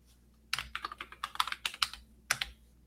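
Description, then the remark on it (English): Crisp computer mouse clicks tap out in a quick irregular run of about a dozen, followed by a brief pause and a final double click, with no voices; someone is clicking sponsored links while browsing, landing on the Apple website. “So this guy is clicking the sponsored links.”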